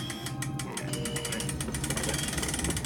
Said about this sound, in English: The main power is still shut down for the night. I don't dare turn it back on. Oh, I see. The need for stealth. Yeah, right. I'll raise the door manually.